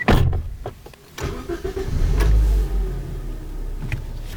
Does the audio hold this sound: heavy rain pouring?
no